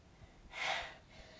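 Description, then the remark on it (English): A single short sneeze from a young girl, a soft breathy burst of air lasting about half a second, heard alone against a quiet background with no talking. “Remember and put your hand over your mouth when you sneeze.”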